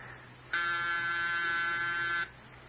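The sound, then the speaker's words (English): A doorbell buzzes once in a single steady, loud, nasal tone lasting under two seconds, then cuts off, leaving a faint low hum in the background. “But we can't just pretend we're out every time the bell rings.”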